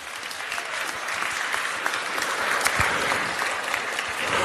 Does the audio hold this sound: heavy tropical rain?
no